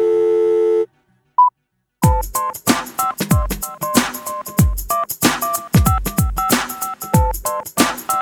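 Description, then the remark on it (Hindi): A telephone busy tone sounds for under a second after a call is hung up, then a short beep, before loud music with heavy drum hits kicks in. “अच्छा सुनो, अब मैं फोन रखता हूँ, डैडी आ गए।”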